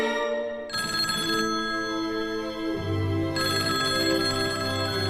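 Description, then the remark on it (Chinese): A telephone rings at home with a melodic electronic ringtone, its tune shifting pitch and playing continuously, clear and fairly loud, while the mother is out, with no one speaking. “妈妈不在家，我连电话都接不了，哎，真没用。”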